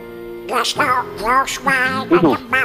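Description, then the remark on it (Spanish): The raspy, quacking cartoon voice of Donald Duck sings a short melodic phrase from a song from Frozen, stretching out a handful of buzzy, wavering syllables with brief breaths between them. “El pato Donald, sí señor.”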